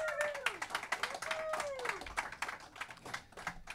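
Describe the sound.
A burst of audience applause welcoming two guests, dense rapid clapping from many hands at a steady moderate loudness, with a few faint voices and a whistle-like tone sliding through the noise.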